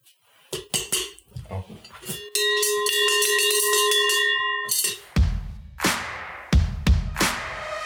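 A cow's Schelle, a rattle-type cowbell rather than a cast bell, clanks and rings at the Allgäu Triathlon in an irregular series of metallic strikes, with one long sustained ringing tone in the middle before more rattling, jangling clanks follow.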